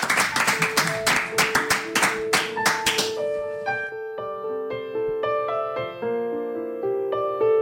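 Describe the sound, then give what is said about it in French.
A short, loud burst of studio applause for two performers, with distinct claps for about three seconds, then it stops as sustained melodic instrument notes begin to play. “Applaudissements de confiance pour vous, toujours.”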